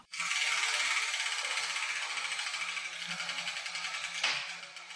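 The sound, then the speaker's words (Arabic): A spinning prize wheel, turned to start the "World of Letters" segment, clicks rapidly and steadily for about five seconds, a dense bright rattle of ticks that loosens slightly toward the end. No one speaks. “جدتي لنذهب لفقرة دنيا الحروف ونبدأ بتحريك الدولاب.”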